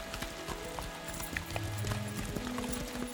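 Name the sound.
horses galloping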